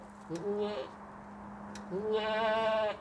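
Two nasal, wavering goat bleats sound on a small goat farm in Rieulay, between Douai and Valenciennes, that keeps fifty to sixty milking goats: a short one followed after a pause by a longer, louder cry, over a steady low hum.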